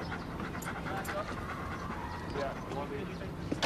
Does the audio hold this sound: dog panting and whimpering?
yes